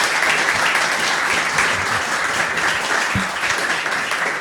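Steady audience applause fills the whole stretch, a dense, continuous wash of many hands clapping at an even loudness, heard on its own without anyone speaking over it.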